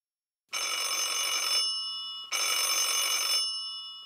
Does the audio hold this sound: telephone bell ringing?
yes